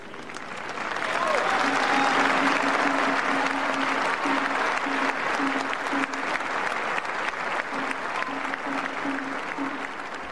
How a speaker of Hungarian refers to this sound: A mai napon is Tapssal köszönik meg a Szentatyának a tanítását és az ő áldását.